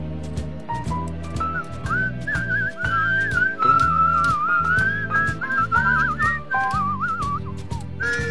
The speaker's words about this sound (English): Very impressive whistling, yes.